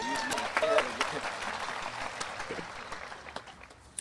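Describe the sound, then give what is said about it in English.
An audience at a graduation gives a round of applause to God for keeping the rain away, clapping steadily for about four seconds, a dense patter of many hands, with a few voices calling out near the start before the applause gradually thins and softens. “And I would just like to take some time to give a round of applause to God, who has kept the rain from coming this afternoon.”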